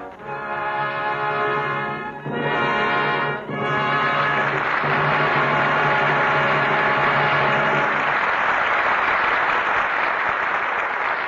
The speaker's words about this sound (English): Your applause is a command. A command to Edward G. Robinson, Marlena Dietrich, and George Raft to return to this microphone for a curtain call.